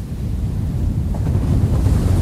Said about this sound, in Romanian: Păi ascultă cum se spar valurile. Hulește marea.